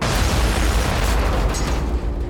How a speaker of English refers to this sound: Hours later, the plane soars over the Andaman Sea, approaching Bangkok. Then a bomb explodes in an overhead storage bin.